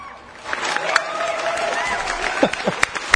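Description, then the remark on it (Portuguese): An audience breaks into applause for Jorge on the MMA Brasil show, a dense wash of clapping that swells after a brief quiet start, with scattered sharper claps and some cheering voices mixed in. “Aplausos pro Jorge, Matias, por favor, eu quero aplausos pro Jorge.”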